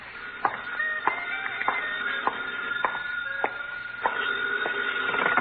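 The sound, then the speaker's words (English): A telephone rings steadily in a phone booth, its muffled, somewhat tinny tone broken by a regular series of sharp clicks about every half second, with no voices present. “Where's your phone? In that booth over there. Hey, maybe that's your call now.”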